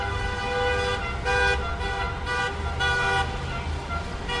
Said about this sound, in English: Honking cars circled the Capitol all day, protesting the debate going on inside.